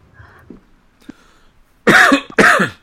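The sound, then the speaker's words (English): Two loud, harsh coughs in quick succession, each a broad raspy burst, from a person who has just taken a drink of water, preceded by faint rustling and a small click in an otherwise quiet moment. “Sorry about that. I just took a drink of water and”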